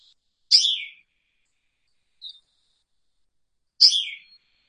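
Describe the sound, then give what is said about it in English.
A thrush that lives on hard-to-reach mountaintops gives two loud, nasal, slurred calls about three seconds apart, with a faint short note between them, clear against silence. “This is a bird that many people have not had close encounters with because it lives in these difficult to get to mountaintops.”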